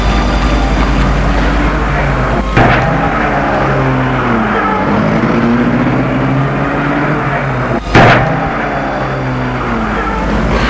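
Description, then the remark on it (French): A chauffeur-driven car in Paris sets off: its engine runs steadily, its pitch climbing and dropping as it accelerates through gear changes, with a couple of brief clunks along the way and no voices. “Et la voiture se met en route.”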